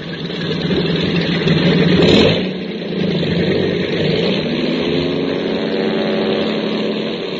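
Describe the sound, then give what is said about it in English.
Propeller engines of three airplanes roar loudly as they wheel onto the runway and take off, a dense steady drone that swells briefly near the start, then holds a constant throbbing hum with no voices. “He released the brakes and the three planes wheeled onto the runway and took off.”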